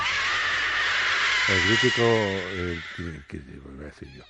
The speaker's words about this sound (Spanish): El mítico grito de Historias para no dormir de Chicho Ibáñez Serrador.